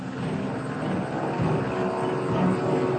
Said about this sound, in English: U.S. officials greenlight their rescue team. Four helicopters depart Fort Bliss.